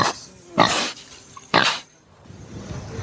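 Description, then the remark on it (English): Two loud, rough grunts from pigs in Bhutan burst out about a second apart, each short and harsh, with quiet outdoor background in between and no talking. “People go around, you'll find, you walk around any time of the day, you'll find people collecting it to feed their pigs.”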